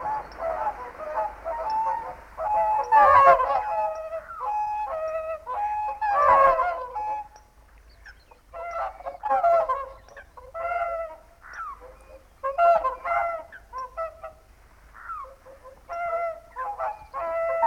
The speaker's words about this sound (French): Le chant des cygnes migrateurs